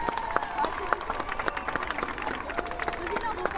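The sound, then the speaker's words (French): An audience applauds loudly for the youngest children, the middle and upper nursery classes of Condorcet school, at an inauguration, many hands clapping in a dense, continuous patter with sharper individual claps popping out, and faint voices mixed into the crowd noise. “Et je vous demande de les applaudir bien fort, c'est les plus petits.”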